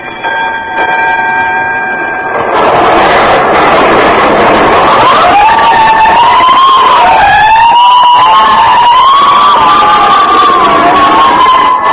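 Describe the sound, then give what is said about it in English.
Fire engine sirens wail loudly at night, their pitch rising and falling over a rushing wash of street noise, after a brief steady horn-like blast at the start. No one speaks. “Every time I hear fire engines at night, I think of Harrison Murdock and the Santilli case.”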